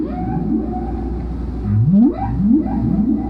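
Humpback whale song: a low, steady moan followed by two rising, upswept calls that glide upward in pitch, fairly loud over a constant underwater rumble, with no voices.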